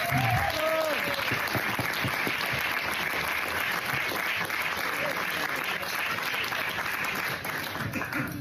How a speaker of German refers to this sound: Deshalb nochmal Applaus für dich.